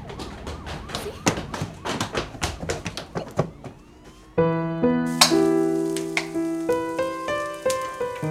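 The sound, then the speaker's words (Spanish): A locked door is pounded and forced as people break it down, with a quick, irregular flurry of heavy thuds and knocks for several seconds, then the banging gives way to sustained tonal music. “¡Aléjense de la puerta! ¡Vamos a derribarla!”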